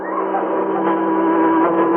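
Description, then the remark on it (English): A loud, steady car engine drones close by for a couple of seconds, its tone holding level as the vehicle passes near, with no voices. “It's a car. Oh, I can't see over this wall. It's coming right past us.”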